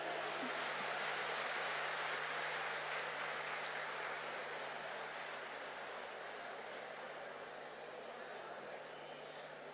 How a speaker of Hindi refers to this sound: जैसे ही सीडी का विमोचन होगा, आप अपने स्थान पर बैठ करके ताली की मधुर ध्वनि से अपनी खुशी प्रकट करेंगे और एक बहुत सुंदर गीतों की सीडी जो कि गॉडलीवुड स्टूडियो, जोर से ताली बजाएंगे।